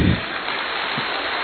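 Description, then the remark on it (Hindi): A steady wash of audience applause at Gyan Sarovar, dense and even, with many hands clapping together into a continuous crackling roar that holds at a constant level throughout. “तालियां थोड़ी कम बजे।”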